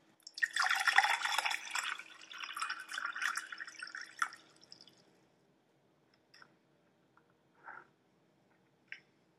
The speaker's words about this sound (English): You know what time it is? It's time for a water break so I can not lose my voice. So give me a second.